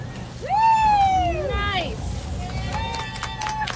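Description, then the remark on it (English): A low, steady boat motor rumble runs underneath as scientists pull up to a patch of seaweed in the Gulf of Mexico to catch baby turtles, people calling out in high, drawn-out voices, followed by a few short, sharp clicks and knocks. “You can hear the scientists pulling up to a patch of seaweed here.”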